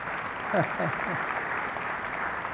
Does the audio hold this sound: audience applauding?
yes